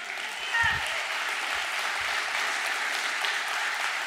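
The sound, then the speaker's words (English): Sustained applause from a large audience, a dense wash of many hands clapping at steady loudness throughout, with no individual voices standing out. “I'm glad you clapped at that.”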